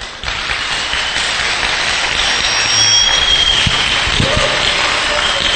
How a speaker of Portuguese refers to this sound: Bom, se ele não ouve, sentirá os nossos aplausos,